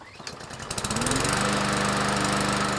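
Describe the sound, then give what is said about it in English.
A lawn mower engine sputters to life and quickly revs up to a steady, loud droning roar that runs without pause. No voices are heard. “While many homeowners still fire up the lawnmower and do their own grass cutting”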